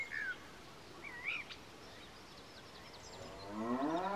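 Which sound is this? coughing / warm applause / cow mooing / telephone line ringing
cow mooing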